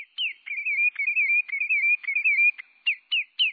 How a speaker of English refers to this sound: Now, picture this bird in its nesting territory in Alaska, sitting atop a spruce tree. That's right, a sandpiper perched at the top of a tree like our backyard robins, singing its caroling song.